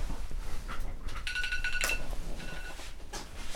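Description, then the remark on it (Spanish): An electronic alarm rings in two short bursts of high, steady beeping tones, the second fainter, over a low rumbling background with no talking. “Puta la weá, está sonando una alarma.”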